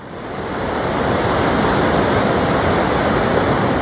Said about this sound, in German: Ah, was plätschert denn da?